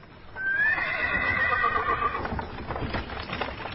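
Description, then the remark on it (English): A horse lets out a loud, shrill whinny that rises and then trembles for over a second, followed by a brief stretch of hooves clip-clopping and shuffling, as horses are made ready to pull a wagon in the morning before sunrise. “The next morning, before the sun came up, Pa got the horses ready, put the furs into the wagon, and drove away.”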